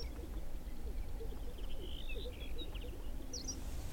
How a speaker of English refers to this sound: The LEK is about 250 yards from the road where we're parked, so it's hard to hear the birds, but I can just barely see them. Gray, lumpy shapes moving back and forth in a grassy open patch in the sagebrush.